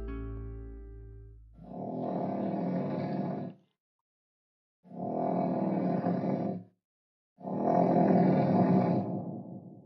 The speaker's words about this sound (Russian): Храп прекратился. Кошка мгновенно застыла. Нет, опять храпит.